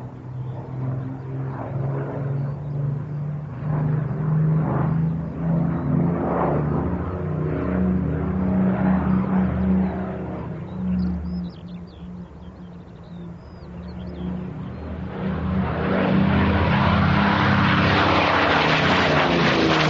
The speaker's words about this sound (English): In the middle of those Mosquito flypasts, you had two Corsairs taking off, but we're still on the Mosquito.